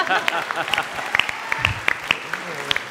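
An audience breaks into steady applause, many hands clapping in a dense, crackling patter with sharp individual claps poking through, fairly loud and sustained for the whole stretch.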